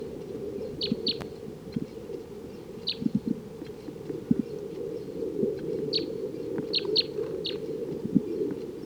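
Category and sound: bird, bird calling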